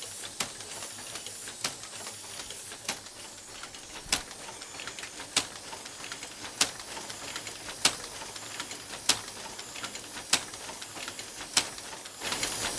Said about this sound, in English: And that spool paper has air blown through it, and that tells the machine which character to go through next.